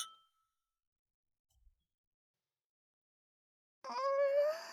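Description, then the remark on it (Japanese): A single bright clink of glasses of freshly poured alcohol touching in a toast, ringing briefly before fading into silence; a soft low thud follows, then a short high-pitched cry near the end. “はい、乾杯。”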